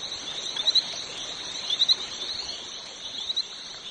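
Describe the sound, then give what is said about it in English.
Small brown frogs with racing stripes call in the El Copé mountain rainforest, white vocal sacs bulging on their tiny throats: brief, high chirping bursts repeat a few times over a steady hum of insects and dripping forest ambience, not loud. “The little brown frogs with the racing stripes, the ones that have vanished from Fortuna, sing here all day long, the white vocal sacs on their tiny throats bulging in and out”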